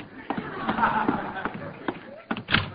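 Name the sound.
door being opened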